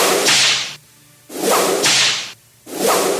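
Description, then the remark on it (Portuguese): Three loud whip lashes in a steady rhythm, each a sharp swishing burst with a crisp snap, separated by brief pauses of quiet. No voices. “Me dê o chicote.”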